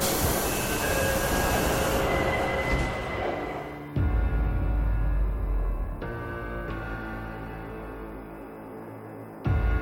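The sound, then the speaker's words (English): A metro train rumbles loudly along the track, then settles into steady whining electric tones and brake squeal as it pulls into Shahid Himmat Station, continuous, with no voices. “Oh, here, I have to get off the train.”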